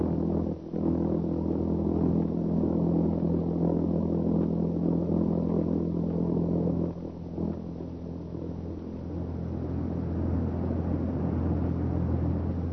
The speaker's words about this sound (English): In Europe, that sound means death and destruction. It's the sound made by the jet-propelled buzz bomb, Hitler's weapon of vengeance. Let's listen to it ourselves for a few seconds.